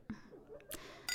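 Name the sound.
glasses clinking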